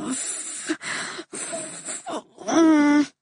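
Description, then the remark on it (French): A woman in labour breathes heavily through a contraction while being guided in her breathing: several long, rasping breaths in and out, ending in a drawn-out, strained vocal moan on the final exhale. “Marie me prend la main et m'accompagne dans ma respiration pour faire passer la contraction.”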